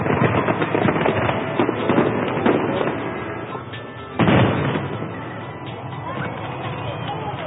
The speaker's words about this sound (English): Montreal also hosts each summer an international fireworks display.